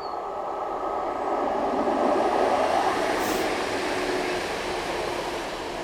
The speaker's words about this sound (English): Oh, here comes a train.